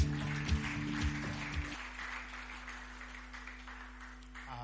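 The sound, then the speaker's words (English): An audience at a Last Adam Tabernacle church service claps steadily as a dense, crackling wash of hands, with a low sustained keyboard tone humming underneath that shifts pitch partway through. “Give your neighbor a clap for coming and worshiping.”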